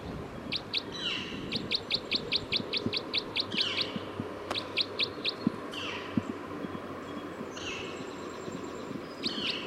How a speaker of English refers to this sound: Recording bird 306.